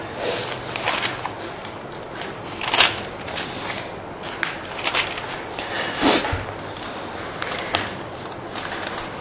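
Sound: sneeze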